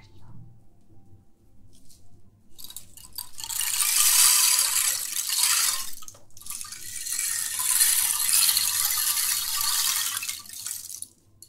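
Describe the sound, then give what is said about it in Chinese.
An ocean drum is tilted slowly, its rolling beads making two long hissing swells that rise and fall like waves washing onto a shore, with no talking. “接下来给你准备了一个像海螺一样的鼓，这个鼓呢可以发出像海螺一样悦耳的声音，你可以听一下大海。”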